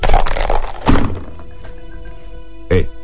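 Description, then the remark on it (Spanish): Dice being thrown in a scene from a Japanese film about the blind swordsman Zatoichi: a few sharp, hard clattering knocks spaced irregularly, with a steady low ringing tone sustaining underneath between the impacts. “Los dados no suenan igual.”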